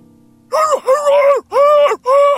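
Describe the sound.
A person lets out four loud, strained screams from deep inside the throat in quick succession, each a sustained guttural bellow with brief breaks between them.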